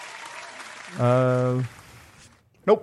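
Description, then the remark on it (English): A brief burst of canned applause: a steady wash of crackling clapping, with a sustained tonal hum partway through and a short sharp sound near the end. “There we go. You get applause.”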